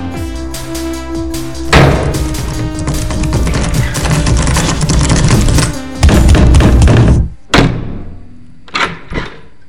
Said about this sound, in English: Hit the door a little hard there. Well, it wasn't budging. Sick of fucking doors getting stuck. You left a hole in the wall.